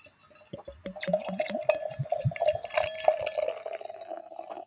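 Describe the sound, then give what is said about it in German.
Wine poured into a glass: a run of gurgling glugs over a steady, ringing liquid tone that lasts about four seconds, then tapers off. No one speaks. “Ich mach mal und tu mal ins Glas.”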